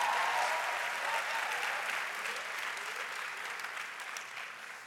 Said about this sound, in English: All right, give these people a great big clap as they sit down.